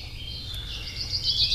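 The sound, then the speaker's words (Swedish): A short burst of chaffinch song played from a record, a rapid run of bright chirps that builds toward the end, heard alone over a steady low rumble like an old recording. “Bofinken, ja. Hur är det? Har den något ljud för sig på vintern?”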